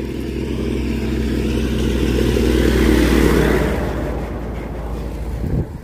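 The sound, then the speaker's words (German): A tractor loaded with earth rumbles past on its way back, its heavy low engine drone swelling as it approaches and peaking mid-clip, then fading away as it moves off, loud and steady with no voices. “So, Trecker Nummer 2.”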